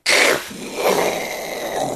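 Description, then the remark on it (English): A voice imitates a powerful multi-engine, multi-stage rocket taking off: a loud, breathy roaring rush that starts abruptly and holds steady for about two seconds, with a raspy hiss over a rumbling throat sound. “Like the kind of engine that when it takes off, it doesn't go shah. It goes.”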